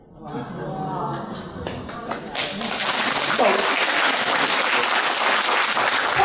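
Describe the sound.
An audience breaks into clapping that swells into a loud, dense, steady wash of applause lasting several seconds, with a voice briefly audible at the start before the clapping takes over.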